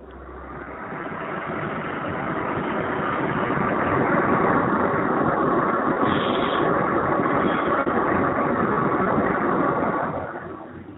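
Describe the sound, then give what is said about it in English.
An aeroplane coming in to land overhead: a broad, rushing engine roar swells over several seconds, holds steady with a faint high whine, then tapers off at the end. No voices. “It sounded like an aeroplane landing over.”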